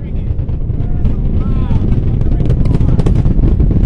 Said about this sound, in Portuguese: O som poderoso da decolagem deixa claro o poder daqueles motores.